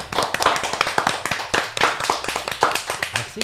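A small crowd applauds two visiting musicians with dense, overlapping hand claps forming a steady, moderately loud crackle that holds for a few seconds without fading.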